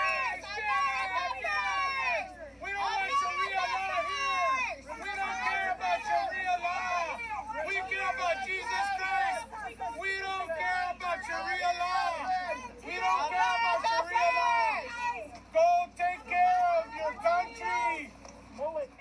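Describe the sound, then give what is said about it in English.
A loud, dense right-wing pro-Trump crowd at a rally shouts racist heckling and chants together, many voices overlapping in surging bursts with brief dips between them, continuing without pause and drowning out a congresswoman as she speaks. “These were the sounds of chants that drowned her out as she spoke.”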